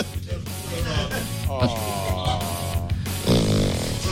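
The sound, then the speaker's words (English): A person makes a drawn-out, throaty snoring noise with their voice, rough and buzzing, ending in a louder nasal snort near the end. “Don't snore.”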